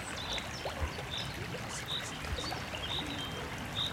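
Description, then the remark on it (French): The Crécoise, a small river by a village, flows steadily, its continuous rushing and gurgling filling the scene, while faint, short chirps of a kind of finch repeat now and then in the background. “On a notre petite rivière qui coule là, mais c'était un patrimoine universel.”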